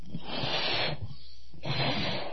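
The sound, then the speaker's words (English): Air rushes from a balloon in a breathy hiss, two long bursts split by a short pause, with a faint low flutter running under the noise and no talking. “If this balloon's going to make noise, what do? You put air.”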